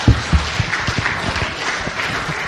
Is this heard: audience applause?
yes